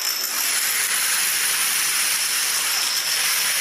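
A long cascade of domino tiles toppling in the programme Domino Challenge 2022, so many tiny clicks blurring into a steady, bright, hissy clatter that stays loud and even for the whole stretch, with no voices.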